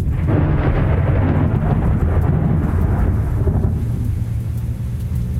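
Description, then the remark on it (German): A deep, continuous rumble of thunder from a lingering storm after the rain has stopped, in hot, humid air, rolls on for several seconds, loud and heavy in the low end, slowly fading slightly toward the end, with no voices present. “Und dennoch verzog sich das Gewitter nicht ganz.”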